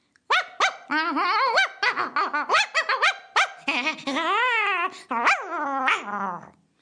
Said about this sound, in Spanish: Poco a poco se estaban acercando los peleoneros cuando de pronto dio un gran salto y un sonido que erizó hasta el más valiente, salió en su defensa un perro grande y fuerte y comenzó a ladrarle a los niños peleoneros.